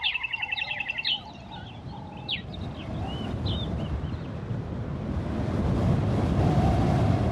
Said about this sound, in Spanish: Este es el sonido del amanecer en el desierto de Kalahari, en Namibia.